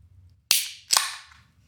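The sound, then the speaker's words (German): A Castle Lager beer bottle being opened: two sharp, bright pops about half a second apart, each trailing off in a short airy hiss, with no talking. “Also ich mache jetzt dieses Castle Lager auf.”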